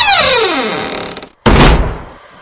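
The heavy gate of hell, opened by demon servants on King Yama's order, creaks open with a long, descending groan, falls silent for a moment, then slams shut with a loud, booming thud that echoes and fades. No voices.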